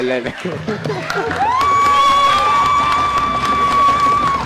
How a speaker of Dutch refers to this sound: Ik wil nog één keer jullie allerluidste applaus horen.